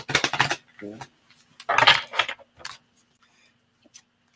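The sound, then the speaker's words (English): Brisk papery riffling bursts, a sharp flurry at the start and a louder one in the middle, followed by a few soft taps and clicks, as a deck of cards is shuffled and squared. “We'll just see, because I'll shuffle and see what we come up with here.”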